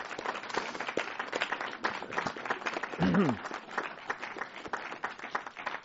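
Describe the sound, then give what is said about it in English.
An audience in Louisville applauds steadily to thank the sponsors of a season of Grand Opera, many hands clapping in a dense, continuous patter for several seconds, with a brief vocal cheer rising out of the crowd partway through. “So please join me in a hearty round of applause to thank them for creating another great season of Grand Opera in Louisville.”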